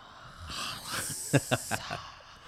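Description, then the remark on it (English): A voice imitates a hissing snake: a sustained, breathy hiss broken by several sharp clicking or spitting bursts, fairly loud, with no real speech. “It's like the snake.”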